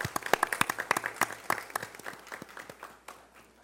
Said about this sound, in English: Are they present tonight? Please come to the front. Let's give a round of applause for them.